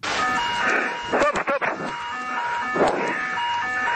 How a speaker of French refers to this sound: Alors que le Boeing 777 est en approche, les alarmes retentissent clairement.